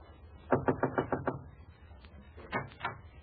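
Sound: knocking on a door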